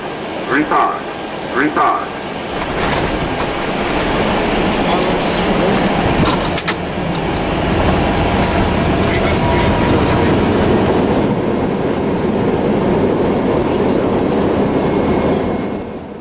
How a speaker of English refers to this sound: And I'm sorry to disappoint you, this plane is not going to crash. At least not now. This is almost a picture-perfect landing in an A320.